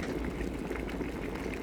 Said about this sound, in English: Now turn the kettle on and stand back. Be very careful because steam is hot. Is the water boiling?